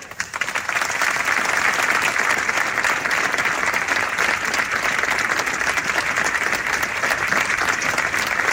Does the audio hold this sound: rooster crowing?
no